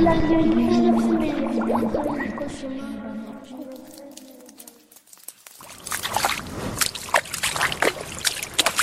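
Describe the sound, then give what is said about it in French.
An underground stream trickles and sloshes in irregular, splashy bursts, fairly loud, following a fading tonal passage and a brief moment of near silence. “Je vais suivre le ruisseau souterrain qui suit une longue calorie.”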